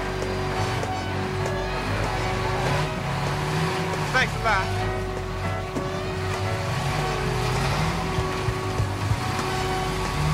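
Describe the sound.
Busy New York City street traffic ambience: a steady, dense rumble of engines and passing vehicles fills the scene, with a brief spoken phrase from a voice and a few sharper sounds rising out of the din.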